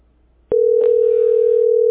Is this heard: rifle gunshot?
no